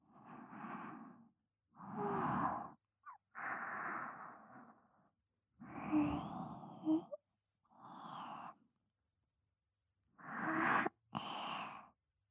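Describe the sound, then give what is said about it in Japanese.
A person yawns several times in a row, with long, breathy, drawn-out exhales and short pauses between them, in an otherwise quiet setting. “ご主人様のあくび”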